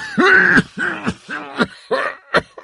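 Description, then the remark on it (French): A voice performs a hoarse, hacking coughing fit: five or six harsh, throaty coughs in quick succession, the first ones long and strained, the later ones shorter and choppier. “Vous oubliez tous quelque chose, croassais-je entre deux quintes de toux.”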